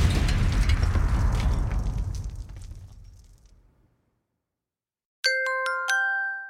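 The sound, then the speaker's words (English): A loud explosion roars with heavy low rumble and slowly fades out over several seconds; after a short silence, a bright electronic chime of a few stepped tones rings out. “Well, that could cause an explosion.”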